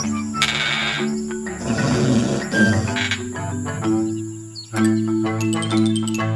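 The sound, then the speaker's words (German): A lion dozing in the warm midday sun gives a low, rumbling growl that rolls on for several seconds, fairly loud, with a steady musical drone and higher chiming tones layered around it. No one speaks. “Eine lebenslustige kleine Maus tollte übermütig um einen Löwen herum, der in der warmen Mittagssonne vor sich hin döste.”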